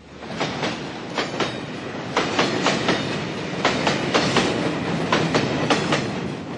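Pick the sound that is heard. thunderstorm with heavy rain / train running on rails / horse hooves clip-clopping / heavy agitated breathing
train running on rails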